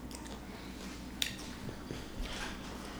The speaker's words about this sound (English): We have to wait till you're done chewing, and then you'll say another one, number 12.